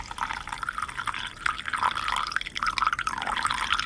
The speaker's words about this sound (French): Tu as déjà, donc, tu as versé l'eau dans les tasses pour la refroidir, et ensuite. Ensuite, donc, je le verse dans la théière.